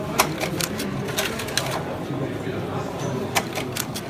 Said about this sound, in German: Also, das Magazin ist zurück. Jetzt wird das gestartet. So, und es wird ein Dia nach dem anderen eingezogen. Das ist jetzt der Projektor.